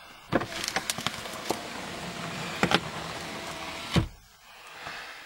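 A car's power window motor whirs steadily for about four seconds as the button inside the car lowers the iced-over window, punctuated by a few sharp clicks and knocks, then cuts off abruptly, leaving quiet cabin hush. No one speaks.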